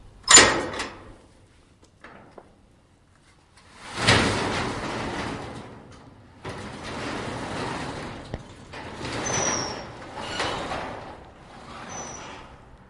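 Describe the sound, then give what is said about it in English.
Manual doors at a diaper bank's on-site headquarters in North Carolina being unlocked and stretched up to open: a sharp clack, faint latch clicks, then several long rushing, rattling swings with thin high squeaks, moderately loud, no voices. “You heard the doors opening to the on-site headquarters at the North Carolina Diaper Bank”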